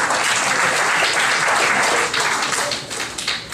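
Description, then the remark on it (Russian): A studio audience applauds loudly, a dense wash of many hands clapping at once, steady for about two seconds and then thinning and fading unevenly toward the end. “Аплодисменты в студии.”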